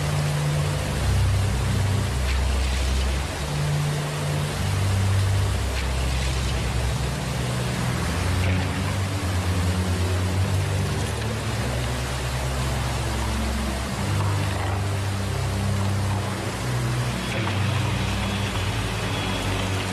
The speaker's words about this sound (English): Then came the waves.